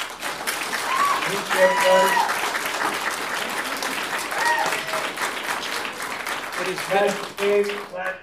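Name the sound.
audience applause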